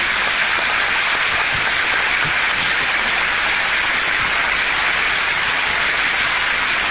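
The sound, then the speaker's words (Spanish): An audience applauds steadily for about seven seconds, a dense, even wash of clapping with no voices over it, greeting a vocal sextet. “Y después pensamos también, porque son amigos, porque los queremos y porque queremos que ustedes disfruten de su canto, en el sexteto vocal …, que nos acompaña esta noche, y para que les pido un aplauso y un saludo.”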